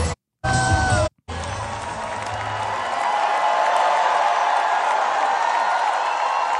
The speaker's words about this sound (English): The other thing is interesting is how many people are screaming at the top of their lungs for these guys. You hear that?